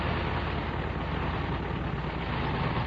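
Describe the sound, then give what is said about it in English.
A World War I fighter biplane's piston engine roars in a steady, unbroken drone, rough and throaty with a low rumble, holding the same loud level throughout with no voices. “Very dangerous airplane to fly.”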